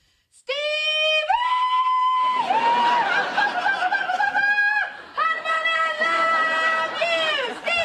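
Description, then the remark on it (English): A woman hollers a loud hog call to get her husband's attention: long, high, sustained vocal tones that rise and hold in several drawn-out bursts, with a rush of crowd noise from an audience swelling beneath the middle stretch. “If you want to get his attention, what do? I holler at him like this.”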